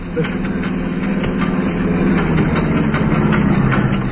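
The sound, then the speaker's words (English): A car engine sputters and struggles, its rough, uneven chugging running loud and continuous for a few seconds as it begins to fail and the car breaks down. “There's something wrong with the engine. It's packing up.”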